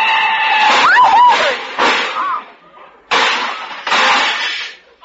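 A car crash with a big black touring car, its fenders knocked off into the gutter: four loud, jarring bursts of crunching metal and breaking glass come in quick succession, with a brief high squeal early on, then it falls quiet.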